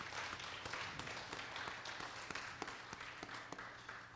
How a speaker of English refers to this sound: Let's give the Lord a hand clap of praise for what he's done for us.